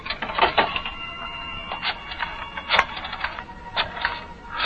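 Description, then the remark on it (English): A telephone handset is lifted, followed by a run of sharp mechanical clicks and rattles as a number is dialed to call Tony Baines at his club, fairly loud, with no voices. “Right now, there's a very important telephone call you must make. Go on. Pick up that phone.”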